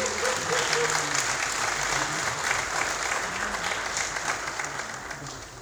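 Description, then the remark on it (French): Sustained applause from an audience for the dean, the first woman architect of Cameroon, a dense, steady clatter of many hands clapping at once, loud and continuous, easing slightly toward the end with faint voices underneath. “Et je vous prie d'applaudir la doyenne Laurence Dosson, première femme architecte du Cameroun.”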